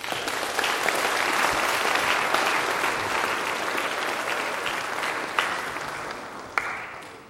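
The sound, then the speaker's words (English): Steady applause from a large audience for kindergarten graduates coming up to receive their diplomas, a dense wash of many hands clapping that holds at an even level and tapers slightly toward the end, with no talking over it. “All right, we can clap for every one of these young people as they come up.”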